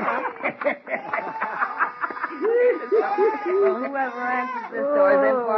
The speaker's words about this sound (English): Rudolph, Rudolph, he loves me. He's kissing me. Merry Christmas, Rudolph. You're the sweetest little goat in the whole wide world.